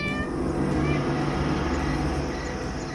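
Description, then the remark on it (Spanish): A cat yowls in a long, drawn-out courting meow to a female cat on a moonlit night. The meow is loud and held steadily for about three seconds, with no one speaking. “Y no hay un gato que pierda la oportunidad de enamorar a su gata a la luz de semejante linterna.”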